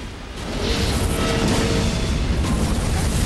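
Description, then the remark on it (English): A massive explosion, a ball of flame erupting at the end of a tunnel, swells in after a brief moment, becoming a loud, sustained roar with deep rumbling low end and hissing debris noise that continues without letting up. No voices are heard. “The sled launches out of the end of the tunnel, just ahead of the ball of flame that erupts into a massive explosion.”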